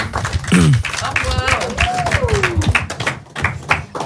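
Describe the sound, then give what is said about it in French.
An audience applauds improv performers at the end of an improv scene, with steady, dense, continuous clapping for the full few seconds, mixed with a few rising and falling whoops and cheering voices. “On peut les applaudir pendant que 3 autres personnes viennent à nouveau leur place.”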